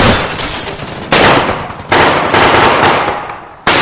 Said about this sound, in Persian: حاج آقا اوضاع خیلی خرابه، این عملیات واقعی شده. با این اوضاع تیراندازی